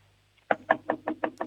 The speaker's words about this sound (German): So, und jetzt gehst du zum Fenster und du klopfst mal mit der Hand so gegens Fenster. Also wie wenn du anklopfen würdest.